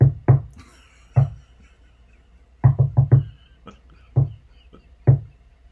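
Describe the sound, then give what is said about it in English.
A secret code knock on a wooden door: two quick raps, a pause, one rap, then a fast cluster of four, and two more spaced knocks, fairly loud with no talking. “do not open the door for anyone unless we hear the secret code, which is.”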